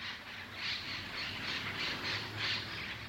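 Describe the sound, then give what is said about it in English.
Harsh squawks of a wild bird, the newest wild bird species in Connecticut, repeat in a steady, rapid series of raspy bursts, fairly loud, with no voices present throughout. “So research biologists will spend the next 2 years trying to discover as much as they can about the state's newest wild bird.”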